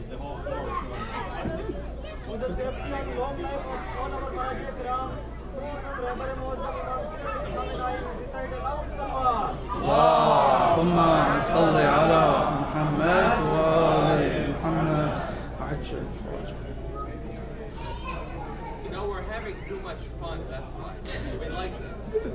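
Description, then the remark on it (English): An audience murmuring and chattering over one another, swelling into a louder burst of overlapping voices shouting out answers to a quiz question midway before settling back into a steady babble. “I can hear people shouting out the answers.”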